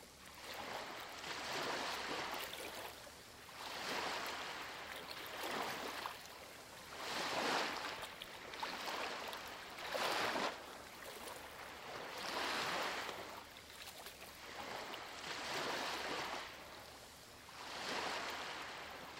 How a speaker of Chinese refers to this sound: 当你呼气时，海浪退去。现在自己来尝试一下，当海浪涌来的时候，深深的吸气， 当海浪卷走一些小碎屑时，深深地呼气。